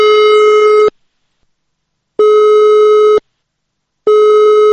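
An unanswered phone line rings out while calling members of the state parliament's House of Representatives collegium: three steady, loud electronic tones, each about a second long, repeating with short pauses in between, with no voices.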